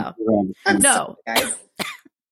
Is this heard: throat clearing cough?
yes